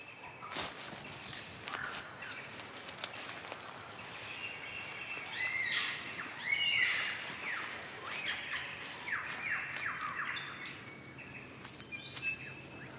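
Song of a superb lyrebird (Victorian lyrebird) of Southern Australia: varied whistles, sweeping calls and sharp mechanical-sounding notes, mimicking many sounds in rapid succession, moderately loud against a soft outdoor background with occasional rustling.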